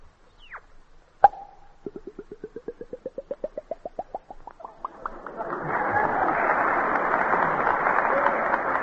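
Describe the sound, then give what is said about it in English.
A voice mimics opening a bottle: a sharp cork-like pop, then a quickening run of rising glugs as if pouring, fading into a long, steady hissing wash. “And now, if you're thirsty, I'll open up a bottle.”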